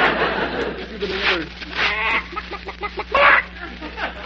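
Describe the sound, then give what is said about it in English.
A chicken clucks in a busy, jittery series of short calls, with quick pulsing bursts near the middle and a sharper squawk toward the end. The sounds are fairly loud. “They didn't steal our chicken after all.”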